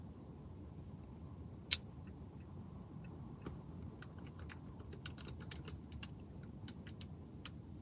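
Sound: typing on a keyboard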